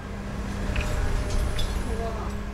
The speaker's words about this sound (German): Ein Lastwagen bugsiert einen DHL-Container über einen Parkplatz, geradezu auf ein Gebäude, auf dem der Schriftzug Internationale Seepost prangt.